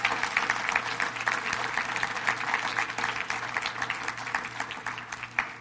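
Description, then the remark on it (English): A church audience applauds the fathers present, a dense rain of hand claps sustained for several seconds, with a faint low hum underneath. “Let's give our dads a big hand clap.”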